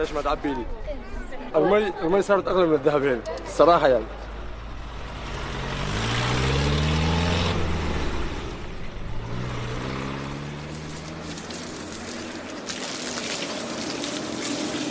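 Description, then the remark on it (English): After a few seconds of voices, a heavy water tanker truck's engine rumbles, revving up through the gears twice as it drives off out of the city to fill its tanker at a water well, a low steady drone underneath. “starts his day by driving out of the city around 20 kilometers to fill his tanker at the water well pumped by diesel fuel.”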